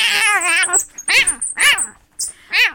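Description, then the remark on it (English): A cat meows insistently, a long wavering yowl followed by three shorter, rising meows spaced out over a few seconds, loud with no one talking. “Did the cat open it?”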